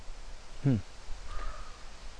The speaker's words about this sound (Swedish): Men, och här kommer korpen och hjälper till.